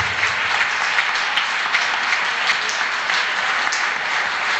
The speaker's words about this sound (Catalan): Un aplaudiment per ell.